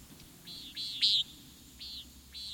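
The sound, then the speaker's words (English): A common nighthawk gives a series of five short, buzzy, nasal calls at a high pitch, spaced unevenly, with the middle call loudest, over a faint low background hum. “Come to birdnote.org for more about the common nighthawk.”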